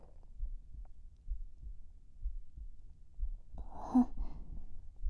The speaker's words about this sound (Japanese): どう？ 私、ドキドキしてる？